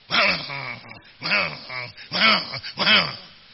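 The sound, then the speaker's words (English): Dogs snarl and growl in four short, loud bursts, each a harsh, rising-and-falling vocalization with brief pauses between. No one speaks. “you are barking at everybody like a dog. Like when two dogs meet the same plate of food.”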